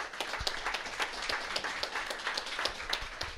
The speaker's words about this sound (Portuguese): Portanto, por tudo isso, eu peço uma salva de palmas muito grande para o meu amigo